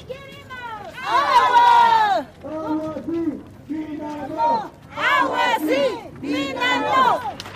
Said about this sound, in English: This is a protest march in the mining town of Espinar in the high plains of the Andes Mountains. The people on this march say the big local copper mine is polluting their fresh water, their rivers, their streams, and their soil.